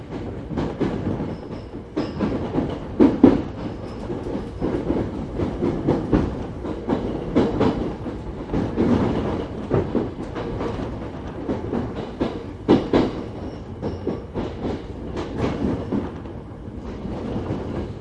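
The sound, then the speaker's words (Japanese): A local (all-stations) commuter train bound for Tōbu Dōbutsu Kōen rolls along the rails with steady rumbling and repeated clickety-clack wheel beats, continuous throughout, with occasional faint high squeals. “この電車は各駅停車、東武動物公園行きです。”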